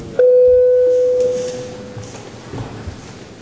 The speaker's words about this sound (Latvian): Paldies, lūdzu zvanu. Balsosim par likumprojektu grozījumu likumā par valsts budžetu 2012. Gadam atbalstīšanu otrajā galīgajā lasījumā.